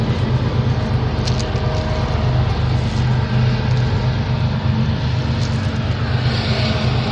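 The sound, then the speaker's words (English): A steady, loud low rumble fills the scene without pause, a train rolling past, with a broad hiss of noise over the top and no voices. “Got a little competition here with the train.”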